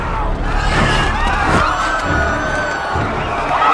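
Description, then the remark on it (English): A loud, chaotic mass of voices fills the air with overlapping shouts, yells and whoops, a dense continuous roar of an agitated crowd fighting in a street square, some people attacking others, with no pauses. “An aerial view flies over a square that looks like a running battle.”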